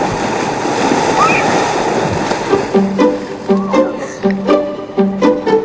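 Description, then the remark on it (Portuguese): Gentle, clean water washes and laps steadily against a shore of colourful pebbles on a deserted beach of an island in Sweden, a soft continuous wash of surf; partway through, repeated tonal notes come in over the water sound. “Bem, vamos a uma praia deserta e linda. À beira d'água, um tapete de pedras coloridas.”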